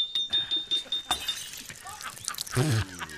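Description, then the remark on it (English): A glass jar is tapped against a tree to loosen its stuck lid and smashes with a sharp crash, followed by a scatter of bright, tinkling shards, then a brief high-pitched bleat-like cry near the end. “The lid won't budge, sir. Just tap it against the tree.”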